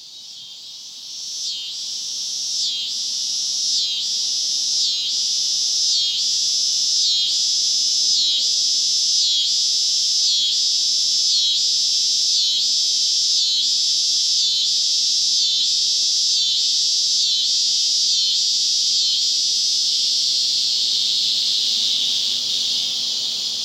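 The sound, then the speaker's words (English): Male scissor grinder cicadas singing up in the trees of a forest at dusk: a loud, shrill, rasping buzz pulsing in a steady rapid rhythm for the whole stretch, continuous, with no voices. “Those are scissor grinder cicadas. They sound like someone grinding scissors on a sharpening wheel.”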